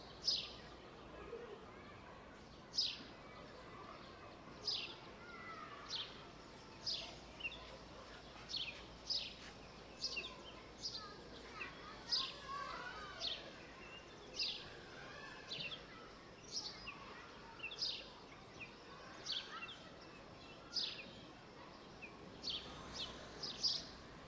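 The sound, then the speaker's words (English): Birds sing in a steady series of short, bright chirps repeating every second or so, fairly clear against a soft, murmuring outdoor background, with no one speaking. “Listen for the happy song of birds.”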